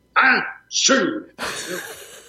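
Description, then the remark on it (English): A voice imitates a famous film star such as Cary Grant sneezing, in three quick, loud bursts: two breathy, rising 'ah' sounds followed by a longer, hissing, explosive third burst. “And I was doing these various sneezes of people, you know, like Cary Grant sneezing.”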